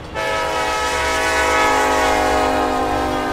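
A train whistle blows in one long, loud, sustained blast starting almost immediately and holding steady to the end, its bright harmonic tone ringing out with no talking, in the small town of Bremen, Georgia, USA, where 48 trains pass through every day.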